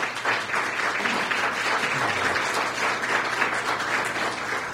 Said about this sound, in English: Let's give them a round of applause for all their time.